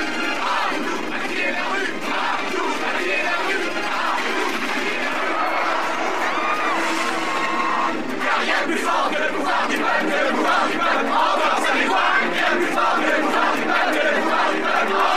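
A large crowd of protesters shouts and yells continuously in the streets of Seattle amid chaos, voices overlapping in a loud, dense roar that swells sharply around the midpoint and stays intense, with scattered higher-pitched cries rising above the din.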